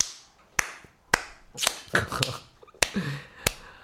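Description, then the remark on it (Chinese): Five or six sharp, crisp claps land at uneven intervals, each loud and snappy, with murkier bursts of noise filling the gaps between them. “就是光第一天观看次数就高达8630万次，拍手。”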